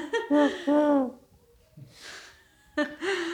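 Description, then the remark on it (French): A voice imitates a turtle dove's cooing with two soft hoots that slide downward in pitch, followed by a breathy exhale and then the start of another voiced sound. “Pas des pigeons, mais des tourterelles, tu vois, qui font des... Ah oui. Qui font des ou-ou.”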